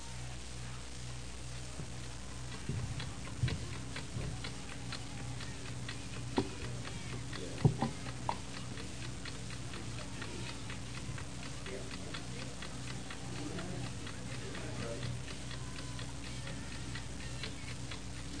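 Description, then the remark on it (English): A clock ticks steadily, its even, regular beats continuing throughout over a low background hiss, with a couple of slightly louder knocks partway through. “You hear the tickings of this clock?”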